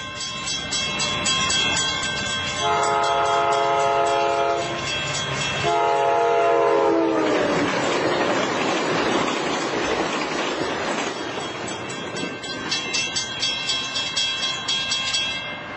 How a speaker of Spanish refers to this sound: Bueno, Pepa, ¿qué era lo que se estaba moviendo y qué era lo que estaba fijo? Pues un tren, ¿no? Sí, y lo que estaba fijo, una campana.